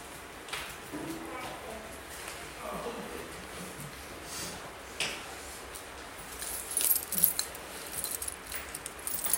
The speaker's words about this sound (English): what are these? Keys. Keys.